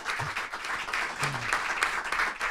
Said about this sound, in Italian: che salutiamo con un applauso innanzitutto.